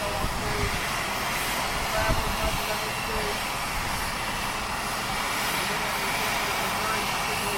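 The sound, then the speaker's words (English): A steady, loud roar of an aircraft's twin engines throttling up, one slightly more than the other, with a broad rushing hiss of air on top and a low rumble underneath, continuous for the whole stretch. “Sounds like he's got both engines up his feet now.”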